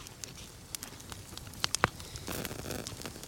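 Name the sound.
crackling fire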